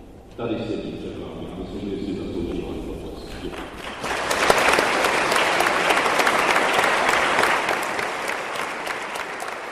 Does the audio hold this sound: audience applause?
yes